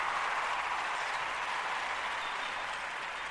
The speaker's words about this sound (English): Where's the hand clap? Where's the hand clap of praise from the church congregation for me? There we go. There we go. There's the church clap.